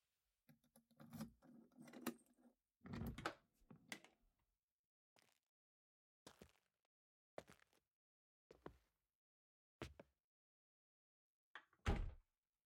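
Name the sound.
keys jangling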